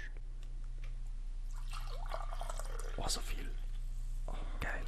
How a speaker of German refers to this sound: darf ich mir von deinem geilen Grüntee eine Tasse einschenken? Gerne, soll ich dir einschenken oder schenke ich dir?